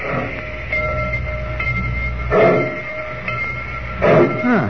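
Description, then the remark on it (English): A train pulls out of the station with a steady low rumble and faint mechanical whine, broken by a few louder hissing, clanking bursts as it gathers pace. “I just don't like dirty trains.”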